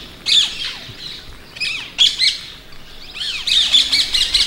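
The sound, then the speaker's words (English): Ringneck parakeets give loud, harsh shrieking calls in repeated bursts, high-pitched and keening, with rapid overlapping squawks toward the end and no talking. “It's a real sort of keening cry.”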